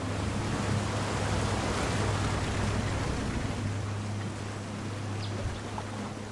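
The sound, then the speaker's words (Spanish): A motorboat runs steadily on a four-hour river journey along the Orinoco, Guaviare and Atabapo rivers, with a low, droning engine hum under a constant rush of water and wind. The noise stays loud and unbroken throughout, with no voices. “La lancha se detiene y esta es la señal que nos indica que hemos llegado.”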